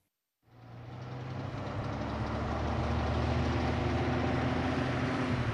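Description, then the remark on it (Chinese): A heavy moving truck engine rumbles in after a brief silence and grows steadily louder as the trucks creak and sway up a driveway at daybreak, a deep continuous labored drone, with no one speaking. “搬家的日子到了，天一亮，搬家卡车就开来了。他们吱扭吱扭，摇摇晃晃地爬上车道”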